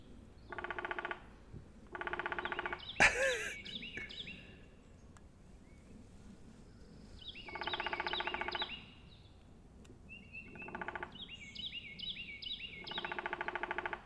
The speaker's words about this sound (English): Oh my god, there's a woodpecker like right above me.